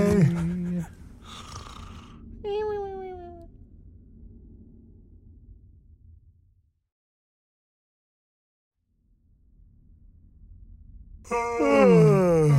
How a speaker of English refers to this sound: Jinx. What? We both yawned at the same time.